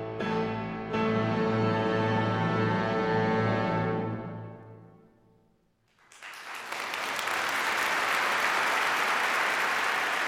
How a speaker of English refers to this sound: She soaked up the applause, the star of the show, and she played like never before.